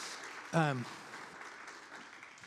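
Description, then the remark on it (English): Steady, fairly soft audience applause, a round of applause for the people who brought in flowers, continues throughout, with a single short voiced whoop or cheer rising over the clapping near the start. “Yeah, we can round of applause.”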